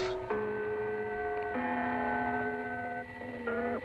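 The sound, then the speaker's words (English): A numbers station gong signal of the Stasi, the East German secret police: steady, ringing electronic tones over constant shortwave hiss, shifting pitch in a few abrupt steps, with no voices. “God knows what his wife and kids thought when they heard these gongs coming out of his kitchen.”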